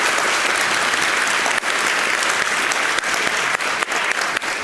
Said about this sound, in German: Dementsprechend einmal Applaus für Trash, was nicht hier sein kann.